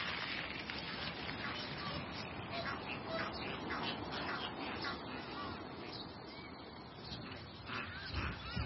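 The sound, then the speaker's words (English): Ducks quack repeatedly in a steady, busy chorus, with other waterbird calls mixed into a dense, unbroken wash of outdoor noise at the Black River Rothenburg bird watching site, where African black ducks, Egyptian geese and heartlop gulls are found; the calls sound fairly loud throughout. “Then you have the heartlop gull, the African black duck, the Egyptian goose.”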